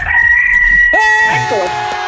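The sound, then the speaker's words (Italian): Bruno the rooster crows once in a stable, loud, a strained, drawn-out call that breaks into a wavering second phrase and trails off over about two seconds. “vediamo, vediamo se riusciamo a collegarci con la stalla dove canta il gallo Bruno.”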